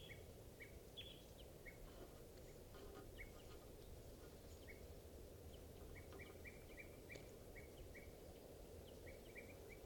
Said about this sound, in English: the wild birds are tooping in the trees. Point at the wild birds.